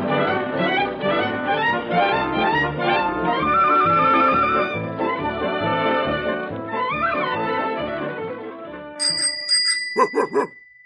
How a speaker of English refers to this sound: Oh, go away. Go away, dog. Go away. Come here, Rags. Come here, boy.